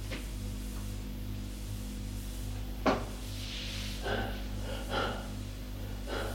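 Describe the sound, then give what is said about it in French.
A man opens a wooden door with a sharp click near the middle, followed by soft creaks and brushing sounds over a steady low hum; moderately quiet, with no voices. “Il ouvre la porte.”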